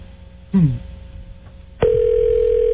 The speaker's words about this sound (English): Oh, now we got the fact he's just not going to answer the phone now.